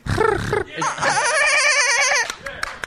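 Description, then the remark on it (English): A person imitates a dolphin with a high, squeaky, warbling vocal sound held for over a second, wobbling rapidly in pitch, after a brief burst of voice at the start. “And, like, would he talk like a dolphin?”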